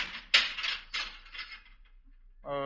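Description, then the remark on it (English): A heavy metal jail cell door at the back of a police station slams shut with a loud clang, followed by about a second of rattling, clattering reverberation that fades out before a voice begins speaking. “Well, it was one of the cell doors closing in the back.”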